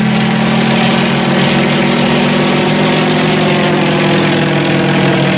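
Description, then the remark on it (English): A loud, steady propeller aircraft engine drones continuously with a low, throbbing hum and no pauses, unchanging throughout. “In the air.”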